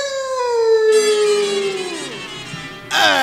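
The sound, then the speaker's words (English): A dog, an Airedale terrier, lets out one long, loud howl that slowly slides down in pitch, with no talking, before a sudden burst of noise cuts in. “Say, you're the Airedale that's been keeping me thought out late every night, huh?”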